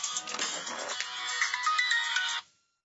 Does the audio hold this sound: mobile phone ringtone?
yes